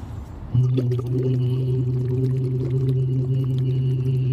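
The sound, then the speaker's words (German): Bubbles blown into a water bottle as a voice exercise while a voice hums one steady low note, a continuous gurgling drone starting after a brief moment and running unbroken to the end. “ich würde dir mal ganz kurz das Mikrofon übergeben, dass ich da reinblubbern kann und dann hören wir gleich, wie sich das anhört, wenn ich reinblubber und wie sich das anhört, wenn ich fertig geblubbert habe.”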